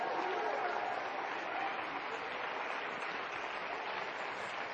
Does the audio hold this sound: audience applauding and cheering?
yes